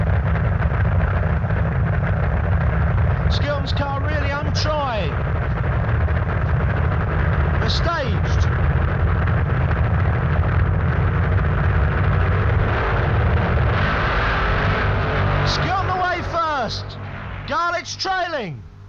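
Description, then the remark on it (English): A sustained, thunderous roar of the drag racing cars of Skilton and Garlitz blasting down the strip, loud throughout, with a voice breaking in over the engine noise at several points. Skilton finishes first with 6.55 at 215; Garlitz runs 6.96 at 201. “From Skilton's point of view, this must be a hell for leather run.”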